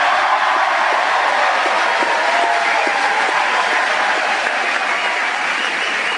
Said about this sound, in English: That applause was well-deserved.